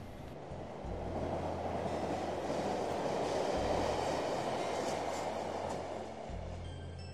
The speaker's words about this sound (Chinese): 啊，火车过咗啦，可以行啦。